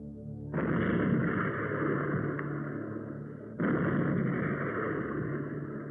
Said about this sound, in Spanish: De un par de cañonazos, los ingleses abaten la bandera que flamea sobre el fortín y arrancan la isla de Manhattan de manos de los holandeses.